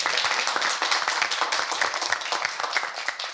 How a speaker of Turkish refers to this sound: Alkış!